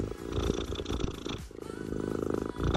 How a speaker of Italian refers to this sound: È un gatto grandissimo. No, credo che si avvicini il microfono. Lei, è una lei. Fa le fusa mentre ci ascolta, è un buon segno?